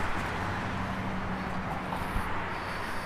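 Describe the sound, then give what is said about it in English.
A steady, continuous rumble of passing car traffic near a bridge, a dense wash of road noise with no single vehicle standing out and no voices. “I think that the cars can sound like waves of the ocean with the right mindset.”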